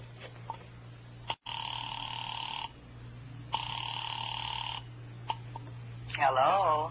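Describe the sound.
Two long, steady ringback tones, each about a second long with a pause between, heard faintly through a phone line over a low hum after a number is dialed. A voice briefly answers at the end.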